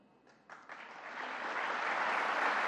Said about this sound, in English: A little bit of applause there.